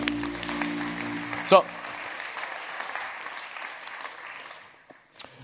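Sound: audience clapping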